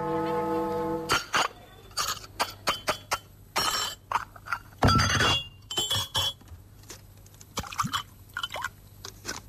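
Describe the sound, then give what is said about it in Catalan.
Irregular metallic clinks and clatters of spoons and forks against dishes at lunchtime, sharp bright taps scattered over several seconds, with a low steady hum underneath and no talking. “Per tot els costats s'entén tapatge de culleres i forquilles, cop de sèties i de gresilles”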